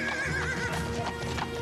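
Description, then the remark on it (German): Several horses gallop in a quick, rhythmic clatter of hooves as a knight and his servants ride out of a castle, with a high whinny rising over the drumming beat. There is no talking. “Im Galopp verließ der Ritter mit seinen Knechten die Burg.”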